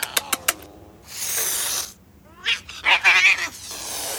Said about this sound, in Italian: Ma che gatto? Il suo gatto, quella bestiaccia. Ah, certo, il vostro gatto. Dai, cerchiamoglielo prima che le venga un colpo.